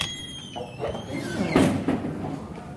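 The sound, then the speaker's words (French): A door in a university building is opened with a scraping, sliding rumble that swells to a peak midway, over faint high-pitched squeaks and a steady background hum. “Et où ? Derrière une énième porte.”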